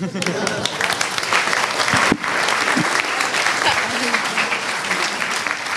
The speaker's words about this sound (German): Doppelten Applaus für.